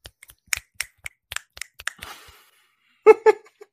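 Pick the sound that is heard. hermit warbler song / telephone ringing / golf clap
golf clap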